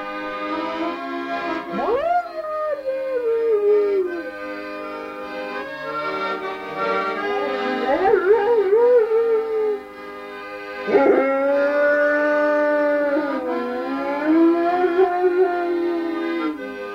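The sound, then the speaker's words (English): A dog howls in three long, wavering, rising-and-falling cries over about seventeen seconds, each starting with a sharp yelp and sliding into a drawn-out, quavering tone, recorded at a ranch in Big Timber, Montana. “his dog Nippy, recorded at their ranch in Big Timber, Montana”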